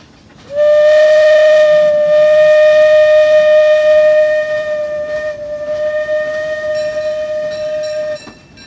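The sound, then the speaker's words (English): A loud, sustained steam train whistle on the Disneyland Railroad blows as one steady tone for about seven and a half seconds, then cuts off abruptly, leaving faint background rumble behind it. “After our journey with the Disneyland Railroad”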